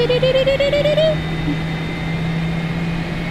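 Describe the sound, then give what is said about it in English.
A flight simulator aircraft engine spools up for takeoff, its whine climbing in pitch for about a second, then settles into a steady, droning mechanical hum with a hissing roar underneath. “Yeah, but the takeoff sound is horrible.”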